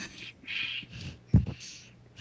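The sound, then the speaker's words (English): Heavy, hissy breaths blow straight into a microphone, rising and falling in a few long bursts with a sharper, louder puff partway through. No one speaks. “Someone's breathing too hard, so it's definitely rated R.”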